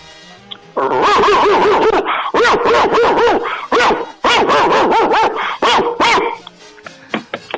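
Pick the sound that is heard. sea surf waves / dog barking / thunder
dog barking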